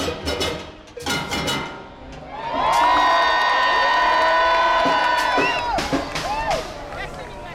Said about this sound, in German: Und dann machen die Mass-Bands die Bühne frei für die Gewinner des Panorama-Wettbewerbs, die …. Unter großem Beifall der enthusiastischen Zuschauer kommen sie auf einem Musiktruck hereingefahren und genießen den Erfolg.